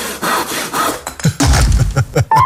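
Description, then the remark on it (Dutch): Rhythmic back-and-forth rasping of a hand saw cutting through wood, several strokes, with a heavier, fuller stroke pattern in the second half. “Woensdag, Zaagmans.”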